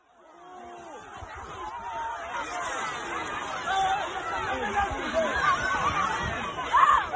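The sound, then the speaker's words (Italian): A chaotic crowd of young voices, about 400 mostly underage teenagers brawling and punching on the Pincio hill in Rome in December 2020, shouting and yelling over one another, a dense, agitated hubbub that swells louder toward the end. “Questi sono i suoni, le urla e le botte di una rissa al pincio, il colle da cui si vede Roma.”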